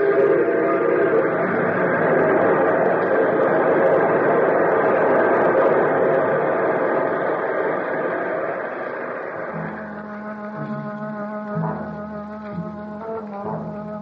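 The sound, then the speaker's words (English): A heavy train rumbles steadily past on a railway bridge in a small town in the United States, its roar slowly easing, then a low, drawn-out horn sounds in several long blasts near the end. “Our scene, a railway bridge in a small town in the United States.”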